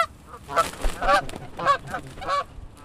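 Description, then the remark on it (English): Large urban geese at their nests honk loudly as the nests are raided: four harsh, nasal calls spaced in an uneven rhythm against faint outdoor background noise. “Disturbing the birds can be dangerous. They're very large and unafraid of people.”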